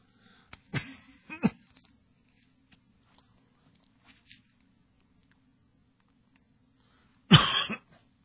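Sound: coughing and throat clearing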